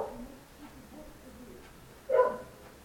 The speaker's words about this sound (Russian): тебя тут еще не хватало. Просто лайка. Диктофон тут у меня гавкает. Красавица.